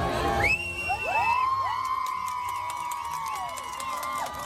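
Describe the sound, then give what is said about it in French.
A crowd cheers loudly at a marriage proposal by a kneeling American visitor on a small stage at Disneyland Paris, with the Disney castle behind. Overlapping high-pitched whoops and drawn-out shouts rise above a steady wash of voices for several seconds. “Puis l'enthousiasme de la foule qui commence à retomber car soudain un employé de Disneyland vient faire irruption sur le podium, saisit la bague et fait redescendre les deux tourtereaux.”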